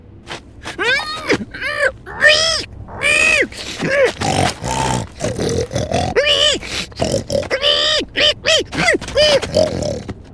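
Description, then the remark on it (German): A voice imitating a pig: a rapid run of high, wavering squeals mixed with throaty grunts and snorts, loud, continuing almost nonstop for about ten seconds. “Und nun spricht er auch nicht mehr, sondern quiekt und grunzt und hüpft in Richtung Schlosstreppe.”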